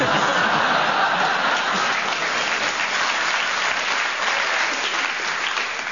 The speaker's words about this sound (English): Thank you for that round of applause. I feel that's for all of us.